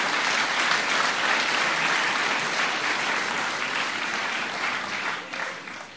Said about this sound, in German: Ich denke, das ist einfach einen herzlichen Dank, einen Applaus nochmal wert für die, die beteiligt waren.